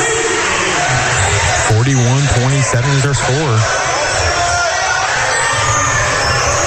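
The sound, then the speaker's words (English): A basketball crowd at the fort roars and cheers during a game in a steady, loud din that never lets up, while an announcer's voice speaks briefly over it. “Just saying, great crowd here at the fort.”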